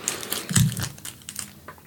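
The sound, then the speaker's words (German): Tesafilm adhesive tape being pulled off and crinkled, a burst of crackly, rustling noise that peaks briefly then continues in smaller irregular crackles, with no voices. “Man kann nie genug Tesafilm haben.”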